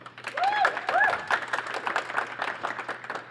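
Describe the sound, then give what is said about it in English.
An audience claps steadily for a few seconds, voting by applause in a March Madness bracket: a dense patter of many hands, with a couple of rising whoops or whistles early on and voices cheering underneath. “All right, so if you want … to go forward, please clap.”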